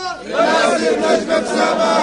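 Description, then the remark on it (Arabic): A large Palestinian crowd chants and shouts together at a rally in Hebron in support of prisoners held in Israeli jails, a loud, sustained roar of many voices with rising and falling rhythmic cries throughout. “صوت الحناجر الفلسطينية على هنا في الخليل باسم معركة الحق في الحياة”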